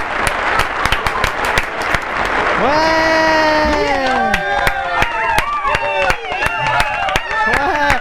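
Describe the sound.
A crowd breaks into loud, sustained applause with dense clapping throughout, joined by rising whoops and cheers from several voices over the clapping.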